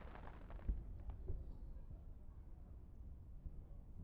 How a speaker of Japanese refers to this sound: 始まった！ すごい。花火の音ってこんなに大きいの？